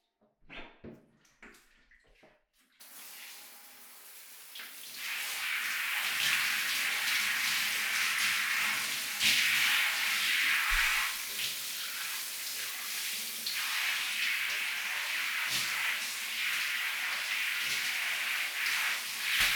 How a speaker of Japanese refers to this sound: 大丈夫？シャワー熱くない？よかった。って、自分で温度確かめてからかけろって？